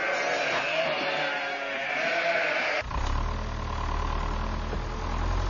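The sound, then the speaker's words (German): A flock of sheep bleats in a dense, overlapping chorus as they are herded for a few seconds, then the sound cuts abruptly to a low, steady engine rumble with scattered faint bleats. “Zusammentreiben von Schafen”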